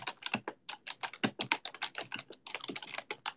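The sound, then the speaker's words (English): Rapid, steady computer keyboard typing, a dense stream of sharp clicky keystrokes with brief pauses, no voices. “Alright, what else is the keyboard ASMR? My keyboard sucks. You guys like the sound of this?”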